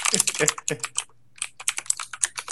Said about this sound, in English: I can find out. This is a mechanical keyboard, listeners.